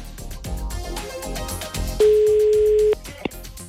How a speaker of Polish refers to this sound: Dlaczego nie odbierają telefonów? Czekamy i dzwonimy. O, tu dzwoni przynajmniej.